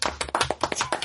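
A quick burst of applause-like clapping, a rapid run of sharp, bright claps that sound thin and small, as if coming from a little speaker close by.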